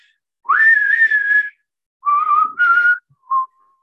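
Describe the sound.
Someone whistles the theme tune from the film The Good, the Bad and the Ugly, a clear melodic phrase: a rising, long held note, a pause, two stepped notes, then a short final note. No one talks.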